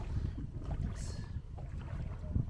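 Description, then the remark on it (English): A small boat pushes steadily through water, coming into a plantation, a continuous low rumble and wash with gusts of wind buffeting the microphone, fairly loud with no voices. “Right, we're just coming into the plantation right now. So the only way to get over there is going to be going through the water”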